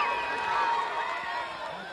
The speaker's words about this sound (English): I can hardly hear your call over here with the scream from the crowd on that one once he caught that ball.